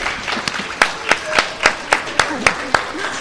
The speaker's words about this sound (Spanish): Un aplauso.